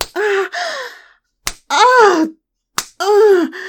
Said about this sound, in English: I've never had anyone put me over their knee and slap me.